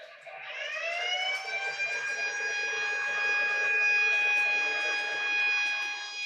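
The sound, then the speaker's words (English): An air raid siren on a Billups neon railroad crossing signal winds up from a low growl to a steady, piercing wail and holds its pitch, loud, with no voices over it. “You can buy a model of it today from Lionel, with its adorable little air raid siren.”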